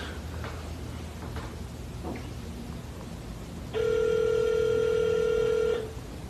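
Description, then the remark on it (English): A phone call rings through: after a few seconds of faint background and soft clicks, a single loud, steady electronic ringing tone sounds for about two seconds, then stops. No one speaks. “Hopefully this phone call won't jeopardize anyone's safety.”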